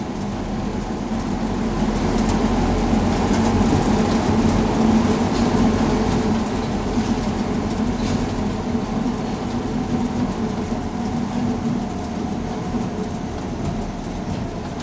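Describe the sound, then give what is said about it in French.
A metro train rumbles steadily into Bastille station, a continuous loud roar of wheels and motor with a low hum and hiss throughout. No one speaks. “Le métro arrive à Bastille,”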